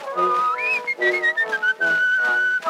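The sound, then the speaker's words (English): A person whistles a melody, the pitch stepping up and gliding between notes in a continuous line, fairly loud, with no one talking. “But he began once more as they threw him out the door, and he whistled up the same familiar tune.”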